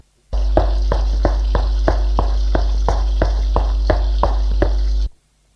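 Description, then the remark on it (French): A loud, steady hiss of gas escaping from a gas hose by a kitchen cooker runs for about five seconds, pulsing in a fast, even rhythm with a low hum beneath it. It starts and stops abruptly, with no voices. “Le sifflement est encore plus fort.”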